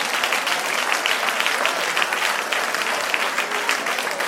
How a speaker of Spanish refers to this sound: ella lo aplaude ahí, no la dejen sola ahí, amén.